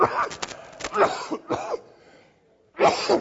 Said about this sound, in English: I can't tell you, forgive me if I cough. Anybody got that cough this week? I'll try not to cough in the microphone for you.